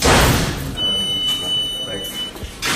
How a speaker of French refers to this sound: Et toute la journée, il y a ce bruit là, des portes qui font clic clac. Ouais, toujours.